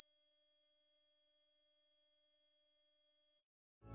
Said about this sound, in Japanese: 次は1万 5000Hz です。30代以下ならある程度の人が聞こえるレベルの周波数です。